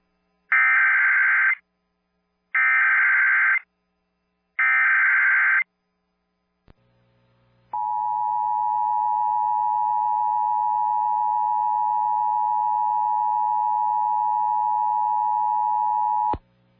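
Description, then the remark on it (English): An emergency alert and notification system siren test for the Oconee Nuclear Station: three short, harsh electronic data bursts, a brief pause, then a long, steady, piercing alert tone holding for about nine seconds before cutting off abruptly. “This is a test of the emergency alert and notification system for the Duke Powers Oconee Nuclear Station.”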